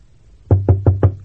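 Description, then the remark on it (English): Four quick, evenly spaced knocks on a wooden door, fairly loud, each with a dull low thud and a short ring-off, with no voices. “I'll knock.”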